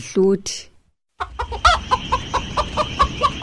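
Chickens cluck in a steady run of short, bright calls over a low outdoor rumble, after a brief squawk and a moment of quiet at the start.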